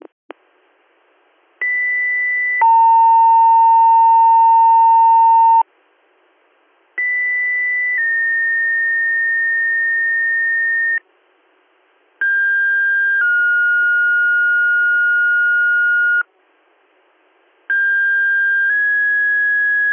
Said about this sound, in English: Defender Woodhull, Avoca, North Hornell in Arkport. Stand by for a weekly siren and pager test.